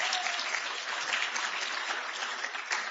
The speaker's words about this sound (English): Come on, cheer for the guy.